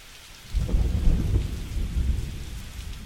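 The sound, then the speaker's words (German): Heavy rain suddenly starts pouring down after a quiet half-second, a loud, steady roar with a deep rumbling undertone that continues to the end. No one speaks. “Und kaum trat die Regenfrau aus dem Haus, um den Wocheneinkauf zu machen, da goss es wie aus Eimern.”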